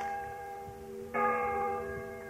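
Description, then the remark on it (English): A large old church bell, once heard across the fields and River Deal, is given a few rings; its rich, humming tone sustains before a second strike at about the midpoint swells it louder again, the resonance lingering throughout. “The old church bell we could hear clearly across the fields and River Deal.”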